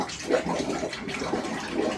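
Water rushes and gurgles steadily in the bathroom shower of a Carnival cruise ship cabin at 2 in the morning, a continuous wash of noise with slight surges and no voices over it.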